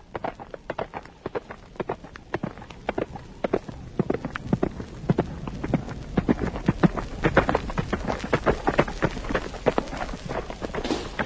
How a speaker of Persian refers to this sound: برای دیدار تو فرسنگ ها اسب تاختم.